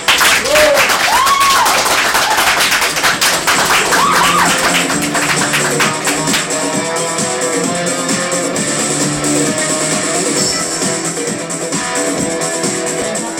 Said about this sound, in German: Wir haben auch Studiogäste eingeladen, von denen würde ich jetzt gerne einen dicken Applaus hören.